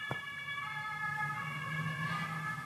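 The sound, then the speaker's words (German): An emergency vehicle siren sounds steadily and fairly loud, its high tones sustained throughout, over a low engine or traffic rumble, with no voices. “Wegen der Sirene habe ich gewartet.”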